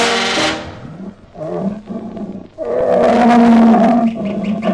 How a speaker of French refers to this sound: Oui, je rugis, moi, messire lion, je rugis. Et à travers la forêt africaine, ma voix domine le bruit des cascades.